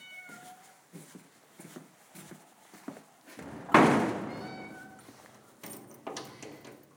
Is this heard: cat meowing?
yes